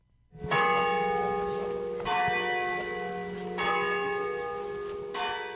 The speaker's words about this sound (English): The sounds of bells peal from the Ermenville Church Tower throughout the day in this little town.